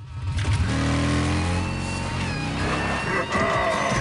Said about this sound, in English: revs the bike.